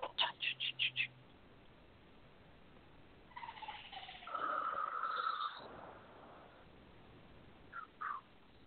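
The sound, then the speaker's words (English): Bird-like vocal sounds: a quick burst of five sharp chirps, then a longer wavering, tonal call, and finally two brief chirps, clear with no talking. “Yeah, it does sound like birds.”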